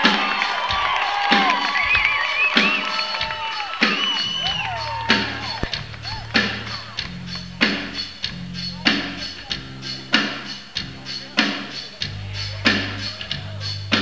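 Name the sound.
crowd cheering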